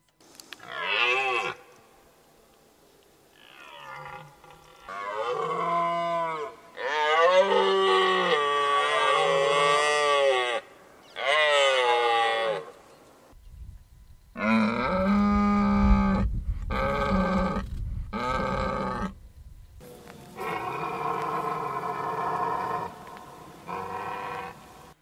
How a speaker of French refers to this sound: Voilà, donc vous venez d'écouter un cerf, ou en tout cas plusieurs cerfs qui étaient en train de bramer, donc vous avez entendu, c'est vraiment un son très guttural, quoi.